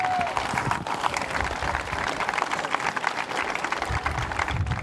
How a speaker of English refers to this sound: We raised over $6,500 for the local chapter of the Red Cross, so a big round of applause for those people.